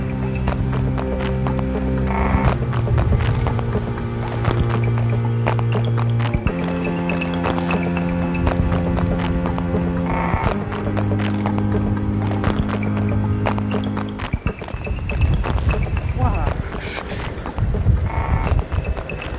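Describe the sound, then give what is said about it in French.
Strong, cold wind at 6-7 degrees on Crozet in the southern lands lashes steadily throughout, a loud continuous roar with sustained whistling tones, buffeting gusts and occasional sharp clatters, and no voices. “Le vent cingle.”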